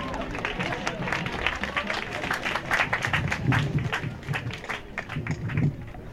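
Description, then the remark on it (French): An audience applauds steadily for several seconds to welcome actor Thierry Lhermitte, a dense, continuous patter of many hands clapping at once, with a faint murmur of voices beneath it. “Veuillez l'accueillir avec des applaudissements, monsieur Thierry Lhermitte.”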